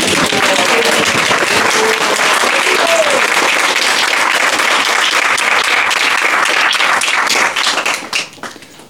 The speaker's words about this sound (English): I think, you know, we should all applaud Maharaj for it.